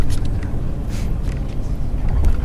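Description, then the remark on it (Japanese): A car rolls slowly along as it gets out of a traffic jam and starts moving somewhat, its engine and road noise forming a steady, continuous low rumble heard from inside the vehicle, with faint hissy bursts above and no talking. “現在、渋滞を抜けて多少動き出しております。”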